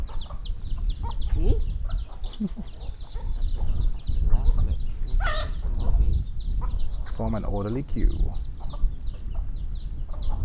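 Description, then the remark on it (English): Several chickens cluck and chatter in a busy, overlapping flock as they are fed, with a dense layer of high chirping birds behind and a person speaking briefly over the noise. “It's like the soup kitchen for chickens, isn't it?”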